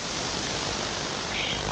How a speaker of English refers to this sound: So at the moment, I'll just turn this up a bit. Maybe you can hear that there is some basically white noise happening.